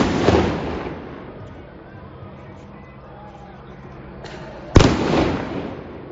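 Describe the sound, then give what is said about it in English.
Loud explosions of fireworks and police flashbang devices hitting people: a booming blast at the start, then a sharp crack a few seconds later, each followed by a rumbling decay over murky background noise. “I mean, they were just, after they'd been hit, these people, with the actual fireworks.”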